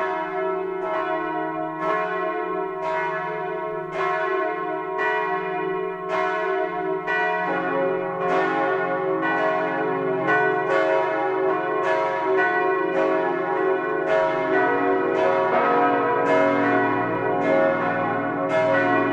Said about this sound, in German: Bayern 1 präsentiert das 12-Uhr-Läuten. Es ist 12 Uhr. Das Mittagsläuten kommt heute aus Füssen in Schwaben.